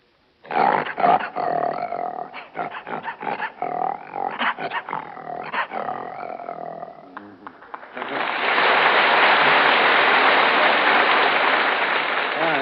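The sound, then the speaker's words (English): A man's voice imitates a lion roaring with a string of rough, growling snarls and rumbles for several seconds, followed by loud, sustained applause from an audience. “And a lion.”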